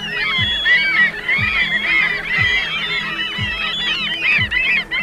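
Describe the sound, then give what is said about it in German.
A dense chorus of seagull calls, many birds crying and squawking over one another without pause, loud and continuous throughout, with a faint low repeating thump underneath. “Zum Vergleich, eigentlich hören sich Möwen so an.”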